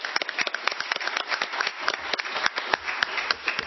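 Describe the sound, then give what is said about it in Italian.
People at a municipal council meeting applaud to congratulate a councillor who married on Saturday, dense overlapping handclaps forming a steady, lively burst of clapping that holds its energy throughout with no voices. “si è sposato sabato e quindi credo che un applauso possa”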